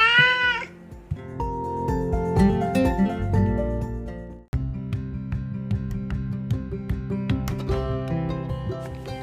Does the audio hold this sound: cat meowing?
yes